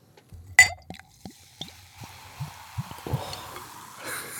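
A sharp clink of glass, then glugging and dripping as raspberry cola is poured into a glass, giving way to a steady, growing fizz of carbonation. No one speaks.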